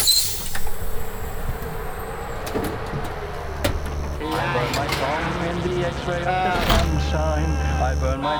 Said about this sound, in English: We enter, and the door is sealed behind us.